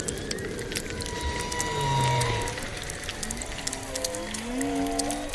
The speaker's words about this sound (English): So whale song is the most obvious example of this.